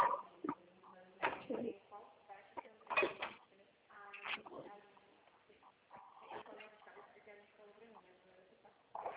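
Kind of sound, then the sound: household object, cooking pot being handled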